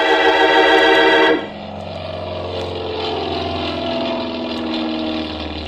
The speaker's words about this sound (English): Well, I drove down to the San Mateo Airport, found the Cranston Flying Service building, and got out of the car and waited. It was a nice afternoon, so I stood watching some of the planes take off and land.